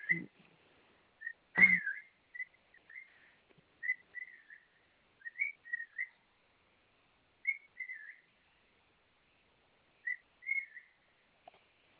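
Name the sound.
cockatiel whistling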